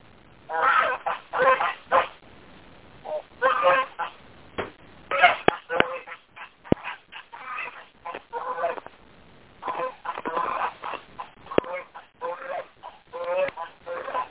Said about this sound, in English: Yes, the geese want to get in their home. Do what? Oh, I'm just watching the geese.